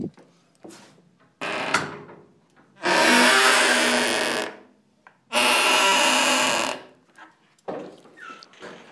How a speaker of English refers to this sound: I'm working at the other place today, and this is a very, very squeaky door.